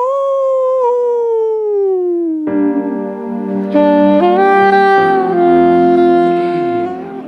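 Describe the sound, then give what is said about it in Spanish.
A loud werewolf howl slides slowly downward, then breaks into a denser, layered chorus of sustained howling tones that holds strong for several seconds before easing off. No talking. “El hombre lobo. ¡Aú!”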